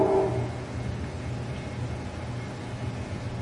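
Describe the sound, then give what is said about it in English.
A train rolls past with a steady, low mechanical rumble that holds even throughout, with a brief higher tone at the very start and no voices. “I hear you got the train coming.”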